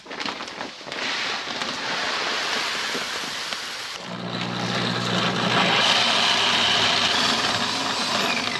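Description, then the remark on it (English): Grain runs through a mill for brewing beer with a steady, gritty rattle and grinding hiss; around the midpoint a motor-like drone with low humming tones kicks in beneath the crunching, continuing loudly to the end. “Right now, we're going to start with milling the grain.”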